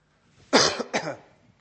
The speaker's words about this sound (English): I've got a tickly cough here.